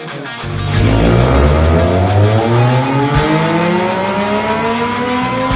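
A Triumph Tiger 800 motorcycle engine fitted with an aftermarket G-Scape exhaust roars loudly, its throaty exhaust note climbing steadily in pitch as the revs build over several seconds, with no voices.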